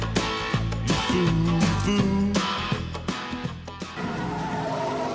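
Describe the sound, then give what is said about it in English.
A car engine roars and revs hard as the vehicle tears away, with tires skidding and squealing, loud throughout, no voices. “Stop! That's my car!”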